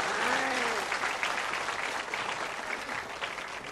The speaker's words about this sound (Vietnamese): Xin một tràng vỗ tay thật lớn.